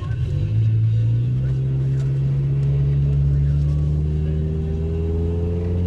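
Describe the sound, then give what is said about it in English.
A little car driving down Massachusetts Avenue in Washington, D.C., its engine droning steadily, a loud, low hum whose pitch lifts slightly early on and then holds, with a faint murmur of other sound beneath it. “All right, so now we're driving down Massachusetts Avenue here in Washington, D.C. A nifty little car, actually not bad.”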